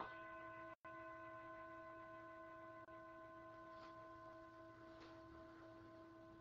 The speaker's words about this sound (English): And so I'm going to just ring the bell and just invite everyone just to gently, gently come inward.